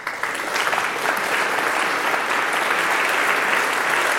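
An audience breaks into sustained applause, a dense, steady wash of many hands clapping at an even loudness throughout, with no voices standing out.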